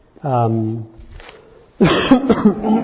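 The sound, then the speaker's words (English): A single short, voiced cough, fairly loud, followed by a brief pause before a person starts talking. “excuse me. I didn't get a cough drop.”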